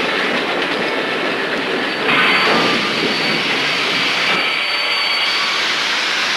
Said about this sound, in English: The train slowly rolls to a stop.